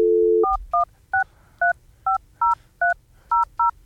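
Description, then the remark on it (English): A brief steady dial tone gives way to a quick run of about ten touch-tone beeps as the Starphone hotline number is dialed, each short two-note chirp evenly spaced, with no talking. “Let's find out if Starphone still exists.”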